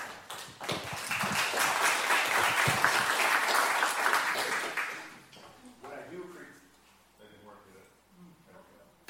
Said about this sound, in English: What I do appreciate about church is we have been trained to be nice. You actually clap before my message.